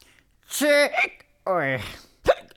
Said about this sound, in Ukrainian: Ой. На тебе напала гикавка.